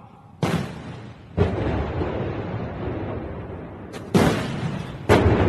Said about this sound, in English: A 100-cannon salute in Beijing today to mark a century of China's Communist Party.